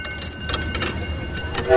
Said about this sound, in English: I'm a locomotive engineer here on the Robin Valley Railway.